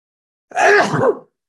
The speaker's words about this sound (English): For me, decision making, I got to sneeze because my allergies are off the charts today.